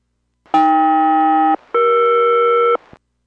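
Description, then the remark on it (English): SELCAL chime tones over aircraft radio during a radio check between Boeing 201 and Boeing Everett: two sustained, loud two-note harmonic chords, each about a second long with a brief gap between, heard alone with no talking. “Yeah, Boeing Everett, Boeing 201, another radio check, standing by for chimes of cell call.”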